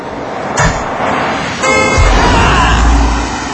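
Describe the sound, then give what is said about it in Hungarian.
A truck sound effect: a heavy truck rumbles while its horn blasts loudly, with harmonic honks around the middle and a steady low engine drone underneath. “Legyen mondjuk jó, ez egy kamion, jó? Jó. Indul a királyi kamion Tibor bőröngyeért.”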